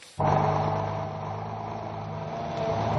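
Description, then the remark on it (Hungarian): A large diesel truck engine rumbles steadily at idle after a brief quiet start, a low, continuous drone with a slight swell near the end, without voices, while a Hungarian National Tax and Customs Administration officer inspects the truck. “Egy kamiont ellenőriz a Nemzeti Adó- és Vámhivatal munkatársa.”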